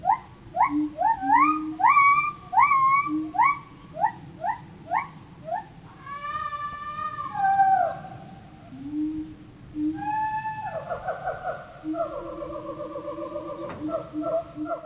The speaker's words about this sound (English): But to drive the point even further, let's now look at a primate. This is a siamang's call out in the forest.